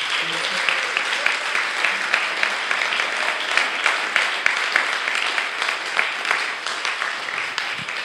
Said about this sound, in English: So I just want to, actually I just think we could just give them a little bit of a round of applause.